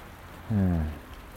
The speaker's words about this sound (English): At least this morning, it's straight down rain. There's no wind behind it, not yet anyway, so it's very pleasant, although it is cold rain this morning. But at least if it's straight down, it's, well, literally, not in your face unless you look up.